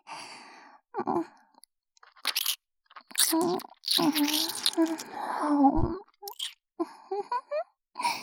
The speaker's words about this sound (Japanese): お耳もぐもぐしちゃった。もしかして、女の子に耳舐められるの初めて？